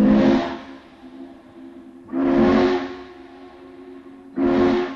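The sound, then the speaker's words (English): A steam train whistle from the dying days of steam railroading sounds in three loud blasts, each a low, steady, breathy tone that fades out, with a quieter rumbling stretch between them. “The sound of steam railroading in its dying days.”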